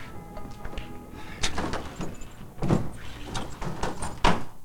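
A door is opened and shut as a man walks out, making several sharp clunks and scraping knocks spread over a few seconds against a low background hiss, with no voices.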